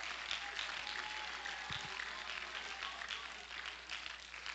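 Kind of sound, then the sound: crowd, audience clapping hands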